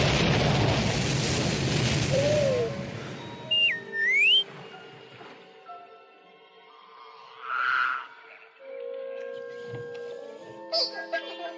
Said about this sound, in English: Just hang on. I'm going to start the landing cycle. Rocketing its way through dense vegetation, it plunges into the gloomy murkiness of a steaming jungle swamp.